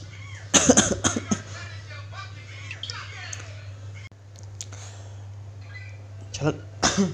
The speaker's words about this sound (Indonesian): Batuk.